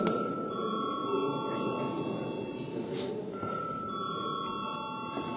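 A continuous electric bell rings steadily for several seconds to call a vote on a bill amending the forest law, a bright sustained tone with a faint buzzy edge, while a low murmur of voices and room noise continues underneath.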